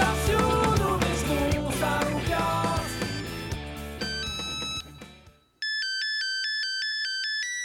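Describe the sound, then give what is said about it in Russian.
A loud mobile phone ringtone plays a busy electronic melody, cuts out briefly, then switches to a steady, repeating pattern of bright beeping tones. No one speaks. “В 90-х в Петербурге появились мобильные телефоны.”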